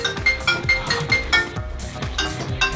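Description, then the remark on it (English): A phone ringtone plays, a quick repeating pattern of bright, chiming notes with a steady bouncing rhythm, fairly loud and continuous with no one talking over it. “Whose phone is that?”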